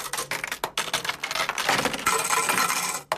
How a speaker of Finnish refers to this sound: Mutta sinulla on tuollainen tyyli, sinä aika nopeasti naputtelet nuo rahat menemään.